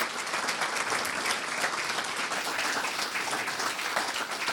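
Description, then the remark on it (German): An audience applauds a guest in thanks, a dense wash of many hands clapping at an even, sustained loudness throughout, with no voices standing out. “Vielen Dank nochmal, einen dicken Applaus für mir.”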